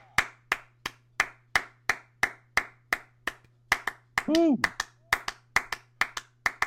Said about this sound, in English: What if the universal way to clap was like this? With your palms instead of your fingers.